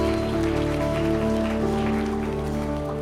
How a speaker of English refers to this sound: And everyone said, let's give Jesus a clap of praise right now. Amen.